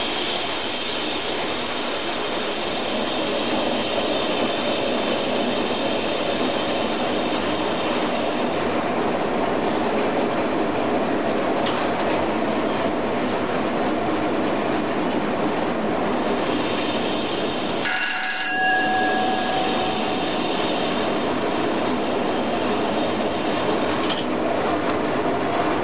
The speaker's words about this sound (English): I'm just going to shut off power now for this 25 mile an hour check at the bridge. We're doing 45 mile an hour. And any second now I shall start to brake just to ease the train down to 25.